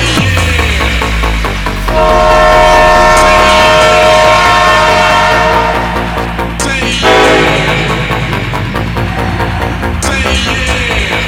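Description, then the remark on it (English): Train doors close and the train pulls away from a station platform: a loud, steady rumble of rail noise with sustained tonal whines and hums rising over it. No one speaks. “Doors are closing.”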